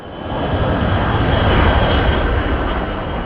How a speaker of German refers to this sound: Ein Geräusch, das für die Bewohner der kleinen Gemeinde Ramstein mit seinen 8500 Einwohnern zum Alltag gehört, wie die Kirchenglocken. Ich wohne nicht weit von der Airbase entfernt, also ich höre das, nachts höre ich die Turbinen, wenn die an sind.